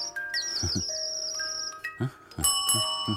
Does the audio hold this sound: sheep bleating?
no